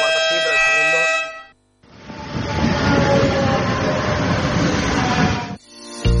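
A train pulls into a station: a loud, sustained horn blast, a brief pause, then a heavy, steady rumble of rolling wheels and carriages before a short tone at the end.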